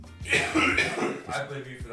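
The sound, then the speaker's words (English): A person coughs and clears their throat, with harsh bursts of rasping noise repeating over two seconds, fairly loud and without clear speech. “But if you say let's restart one more time and I fucking start coughing, I'm gonna punch you in your stupid face.”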